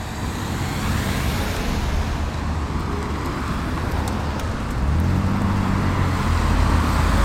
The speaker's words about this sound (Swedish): Det här var ju i alla fall lite parisiskt. En jäkla massa bilar.